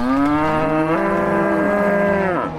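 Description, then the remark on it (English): A single long, loud moo from a Brown Swiss cow, one of a herd of 50 on a farm in Monroe, Green County, Wisconsin, USA, its pitch rising slightly before dropping off at the end, with no voices present. “and he says that each of his 50 brown Swiss cows has a name and a distinct personality.”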